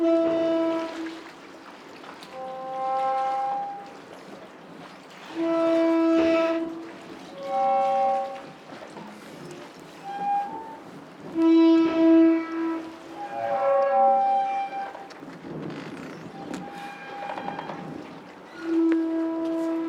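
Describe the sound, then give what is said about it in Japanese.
Long, groaning creaks from a harbor pier jutting out at the boat landing of Shiogama Port, rubbing against itself in the waves, drawn-out tonal moans rising and falling in slow, irregular swells like a large bowed string instrument, with no voices. “港に突き出た桟橋が波で擦れる音ですが、私には大きな弦楽器を練習している音に聞こえます。”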